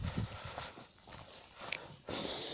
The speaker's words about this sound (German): Dafür war aber gerade es absolut stille, leicht diesig, kein Wind, keine Zivilisationsgeräusche, noch nicht mal Vögel piepen. Einzige, was ich gehört habe, waren meine Schritte.